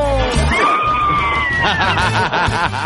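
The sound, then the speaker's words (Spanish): Several people riding in a car let out a loud, sustained yell together, a drawn-out shout held for about a second, then breaking into excited chatter and laughter. “El grito, el grito, el grito, el grito, el grito.”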